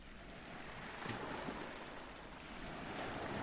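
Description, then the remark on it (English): Sea waves wash steadily onto the beach at Deal, recorded in early evening sunshine on 3 June 2021, in a broad, hissing roar, with a brief louder surge of surf about a second in. Nobody speaks. “These waves you can hear were recorded in the early evening sunshine at Deal on the 3rd of June 2021.”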